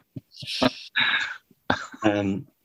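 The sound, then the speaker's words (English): Fergus Craig coughs several times, harsh, throaty bursts in two quick clusters separated by a short pause, the later coughs sounding rough and voiced. “I think we should say, for context, Fergus is having a medical and they're just very unsure about his testes, which is why there's a lot of coughing.”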